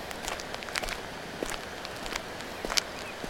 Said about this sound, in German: Wir gehen nebenbei schon mal los. Wir lassen das Wehr rechts von uns liegen und folgen dem Dörener Mühlenweg. Hörst du meine Schritte?